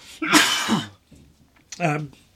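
A loud cough from a person recording inside a shed bursts out once, then after a brief pause comes a shorter, throaty rasp, like a follow-up cough or throat clear. No one speaks.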